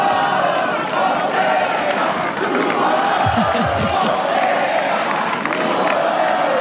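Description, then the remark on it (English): A large Brazilian tennis crowd at a Fonseca match shouts in Portuguese and cheers nonstop, many voices blending into a loud, steady roar, with a brief cluster of low thumps partway through. “I wish I speak Portuguese to understand the Brazilian crowd.”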